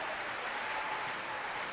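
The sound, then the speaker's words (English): Sustained applause from a large crowd at the end of a ballet, a 20-minute standing ovation, a dense, steady wash of many hands clapping at once with no pauses or voices standing out, loud and continuous throughout. “There was a 20-minute standing ovation.”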